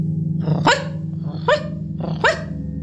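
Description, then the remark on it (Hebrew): A dog barks three times at a steady, unhurried pace, each bark sharp and fairly loud, with a low continuous rumble underneath throughout. “נשמע קול נביחה מחדק השני.”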